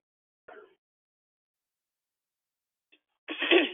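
sneeze

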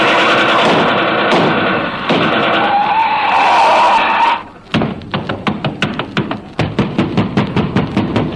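pounding on a door

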